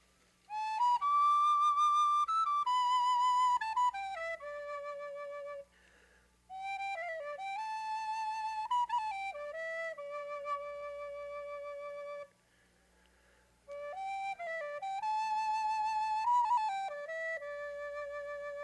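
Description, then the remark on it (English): A small, high flute plays a clear, lilting melody in three phrases separated by brief pauses, played at Fox Hollow, fairly loud, with a soft low hum underneath and no voices. “But just before I do that, I'd like to play this little flute for a minute.”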